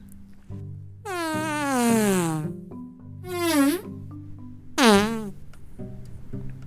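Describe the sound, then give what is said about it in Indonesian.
Three comic fart sound effects, buzzy and sputtering, each sliding downward in pitch: a long drawn-out one, then two shorter blasts, loud over soft background music. “Tapi kemudian tidak jadi apa-apa selain turun menjadi kentut.”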